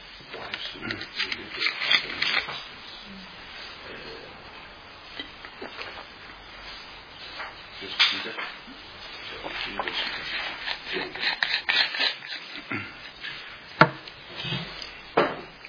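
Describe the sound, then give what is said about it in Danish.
Pages of a Bible being flipped through to look up 1 Peter chapter 3, a steady run of papery rustles and soft slaps of varying loudness, with no one talking. “Så prøver at slå op.”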